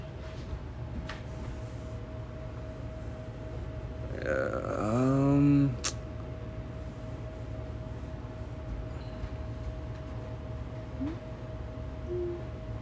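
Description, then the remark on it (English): A washing machine washing clothes drones steadily with a low rumble and a faint constant tone, broken by one brief, louder groaning whine partway through. No one speaks. “Oh, right now I'm washing my clothes. Probably heard a washing machine.”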